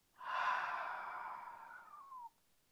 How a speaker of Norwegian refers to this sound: Pusta gott in genom näsa. Och ut genom munnen.